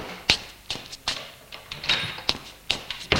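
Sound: door opening and closing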